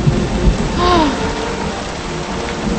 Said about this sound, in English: She looks through the driving rain at the surrounding forest.